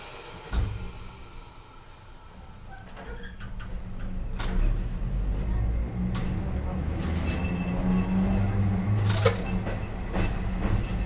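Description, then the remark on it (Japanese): A steady low rumble of an Okayama Electric Tramway tram rolling along its rails as it arrives at its last stop, Higashiyama Chuggington Museum Station, punctuated by sharp clicks and clacks from the track and car, fairly loud throughout. “We will soon be arriving at our last stop, 東山岡田 Chuggington Museum Station.”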